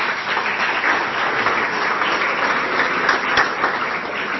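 Steady audience applause, a dense wash of many hands clapping at even loudness throughout, with no voices rising above it.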